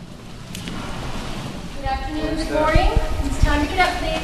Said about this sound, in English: Every other week, a nurse podiatrist comes to clean and massage people's feet. The sound of feet getting scrubbed and toenails getting clipped echoes across the room.